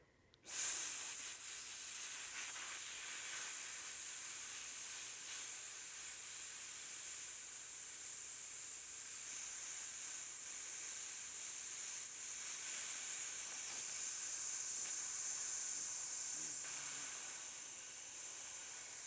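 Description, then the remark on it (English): After a good inhale, a person breathes out in one long, steady hiss as a breath support exercise to control how much air is released. The hiss holds an even, high, airy tone for nearly twenty seconds before fading slightly at the end, with no talking. “It's a good inhale, and we will hiss.”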